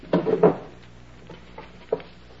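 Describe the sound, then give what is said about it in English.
Wooden drawers of a chest of drawers are yanked open with a quick pair of scraping thumps, followed by a few softer knocks and rattles as the room is searched, with no one speaking. “You take that chest of drawers, and I'll pull the bed apart.”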